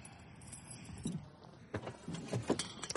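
Car keys jingle and click as they're pulled from the ignition of a car parked in front of the Hollywood bar, a few short metallic rattles spread over a couple of seconds in an otherwise quiet space.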